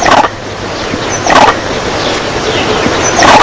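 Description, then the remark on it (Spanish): Three short, harsh vervet monkey alarm calls, the warning for an eagle, ring out loud, spaced unevenly over a steady background hiss, with no talking. “Este para águila.”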